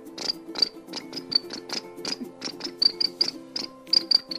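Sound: crickets chirping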